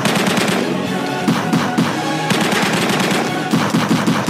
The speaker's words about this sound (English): A lot of missed shots. Jeez. None of the bullets are ricocheting off anything. None of them are hitting glass. No. It's terrible.